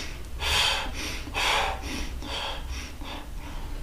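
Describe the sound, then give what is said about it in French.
A voice imitates someone out of breath while walking, panting in a quick run of loud, breathy huffs, the first couple strongest and the rest slightly softer, with no talking. “Et donc, quand on fait Kinin, la marche, quelqu'un qui serait essoufflé, il ferait...”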